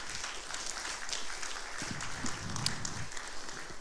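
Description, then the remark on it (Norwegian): People at Høgskolen Gjøvik applaud one another, a steady crackle of many hands clapping together for a few seconds, moderately loud, with no voices over it. “Det synes jeg vi skal klappe for hverandre.”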